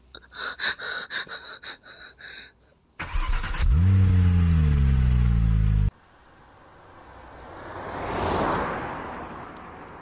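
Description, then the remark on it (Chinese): A series of short rhythmic rustling bursts gives way to a car engine roaring loudly in a traffic jam, its pitch climbing, then a softer whoosh of traffic swells and fades as a vehicle rolls by. “这个时间点怎么还会堵车呢？明明已经不是下班晚高峰了呀！”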